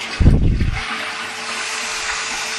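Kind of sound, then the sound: household object, toilet flush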